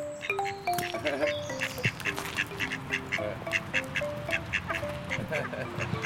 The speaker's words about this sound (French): Est-ce qu'ils ont un nom, ces canards? La femelle s'appelle Paulette et le mâle s'appelle Gédéon.